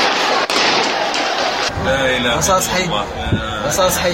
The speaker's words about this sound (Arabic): الكلام ده داخل مستشفى أم درمان، داخل مستشفى أم درمان، داخل مستشفى أم درمان، البمبان والضرب داخل مستشفى أم درمان.